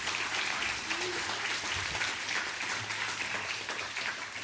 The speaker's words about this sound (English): I wonder if you could do me a favor again. And this is not being biased, but can we give a really big clap again for all the fathers here this morning? Come on.